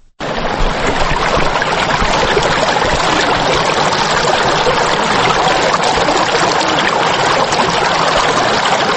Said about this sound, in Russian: Так звучит водная песня прекрасной, но вовсе не спокойной горной реки Арагви.